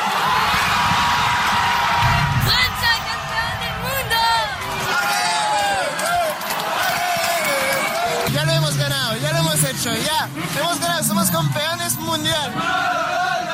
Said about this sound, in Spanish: Y mientras que los jugadores recibían el trofeo, los franceses salieron a las calles para festejar como hace 20 años, de la misma manera que en 1998 se escucharon gritos de euforia, cánticos y mensajes de amor.